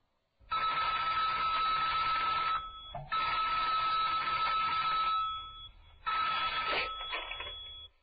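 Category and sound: signal or alarm, telephone ringing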